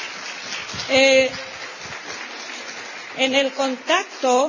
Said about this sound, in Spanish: Un aplauso para ella.